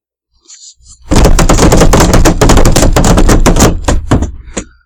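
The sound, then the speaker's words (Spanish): Rifle gunfire: a loud, rapid volley of sharp cracks fires almost continuously for about three seconds, then breaks into a few scattered shots that taper off, with no voices. “Mándenme con el carpinchito, el Winchester y una caja entera de 25 balas.”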